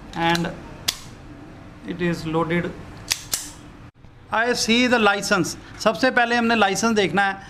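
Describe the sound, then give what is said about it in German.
In a gun shop, a pistol with a 7-shot magazine is loaded to show a customer: a few sharp, crisp metallic clicks and clacks scattered between stretches of a person talking over them. “So wird sie geladen.”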